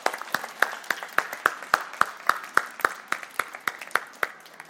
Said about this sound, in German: Applaus, Applaus, Applaus, Applaus, Applaus, Applaus.